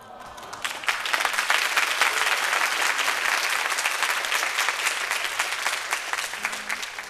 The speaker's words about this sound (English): It's very good clapping.